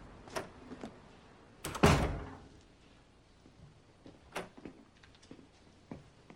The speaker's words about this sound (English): He walks up four steps and opens the door of his house.